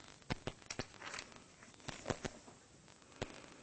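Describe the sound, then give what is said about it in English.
Thin Bible pages rustle and flick in a quick series of crisp crinkles and soft snaps as someone turns to 2 Corinthians 11, with brief pauses between turns and no talking. “The paper is extra thin this time.”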